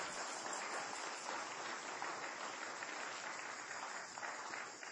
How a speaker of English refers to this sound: Give me Lord a hand clap for that if you believe it.